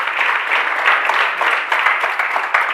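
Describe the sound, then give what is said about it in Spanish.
A crowd at a Microsoft event applauds steadily as the president of Microsoft Ibérica is called to the stage for the official opening, many hands clapping in a dense, continuous wash that stays fairly loud throughout, with no voices on top. “yo voy a pedir que suba al escenario a María Garaña, que es presidente de Microsoft Ibérica, al que voy a pedir, por favor, un fuerte aplauso para ella, que nos va a hacer la apertura oficial.”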